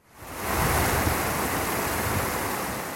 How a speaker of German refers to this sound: Der Bach. Oben bei Männeli Flue in diesem riesigen Einzugsgebiet sind es noch zwei. Fildrich und Kirl heissen sie. Vom Horboden an dann nur noch Kirl.